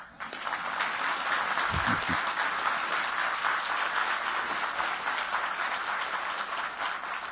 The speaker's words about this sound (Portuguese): Eu quero dar uma paradinha para vocês aplaudirem o Affif.